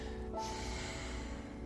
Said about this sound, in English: Deep breathing. Come on in. That deep breathing reminded me of this.